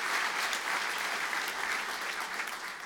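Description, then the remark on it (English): Steady applause from a crowd, a dense crackle of many hands clapping at once, sustained evenly for a few seconds without anyone speaking. “Yeah, we can applaud what God's doing.”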